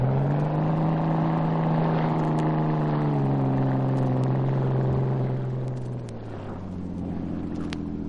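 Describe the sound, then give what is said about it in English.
The engine of a small, fast motorboat racing toward a dock roars loudly and steadily at high revs, then its pitch sags and the drone shifts lower near the end as the engines are reversed, with no one talking. “He gunned the engine, and the small, fast boat raced toward the dock.”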